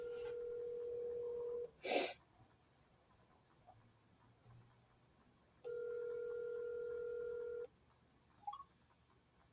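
An outgoing phone call's ringback tone: two steady electronic ring bursts about two seconds long, separated by a four-second pause, with a sharp click after the first ring and no talking.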